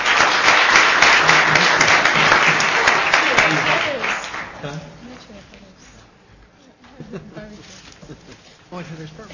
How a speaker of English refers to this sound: Why don't we give our panelists a round of applause and then take a short break?